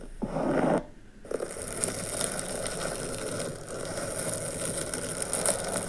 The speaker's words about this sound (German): Also das sind übrigens lange Fingernägel, die an einem Luftballon krass kratzen. Ja, mir macht das was. Ja, ich krieg auch Gänsehaut.